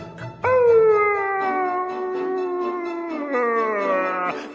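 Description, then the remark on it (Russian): A wolf howls in pain after being struck on its rear with an oven fork, one long, loud cry that slides slowly downward in pitch, then lifts into a brief second wail before cutting off. No talking. “Волк от боли ошалел.”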